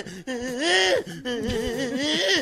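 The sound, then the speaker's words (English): A man's voice imitates the frantic whimpering of someone running from a big dog and about to get bitten: two long, wavering, high-pitched whines with quivering pitch, separated by a short gasp, sustained and fairly loud. “When you're running from a big dog and you're about to get bitten, you sound like”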